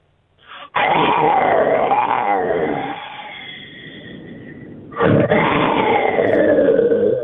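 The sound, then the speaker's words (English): A mountain lion called Tony growls loudly in two long rumbling snarls, the first lasting about four seconds and trailing off before a second growl starts, with no talking. “We got Tony, the mountain lion.”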